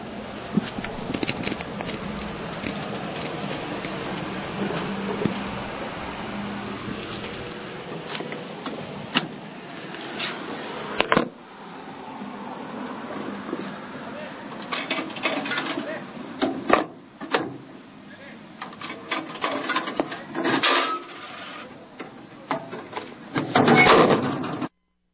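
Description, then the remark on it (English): Irregular crunching and crackling while someone eats dinner, sharp dry clicks and snaps scattered unevenly over a low, steady background hum, growing busier and louder toward the end. “I apologize also for any crunching you may have heard as I eat a wretched dinner here, or a pseudo-dinner.”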